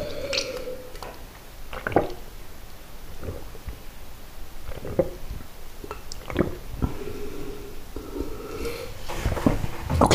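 drinking water

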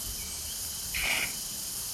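cicadas buzzing

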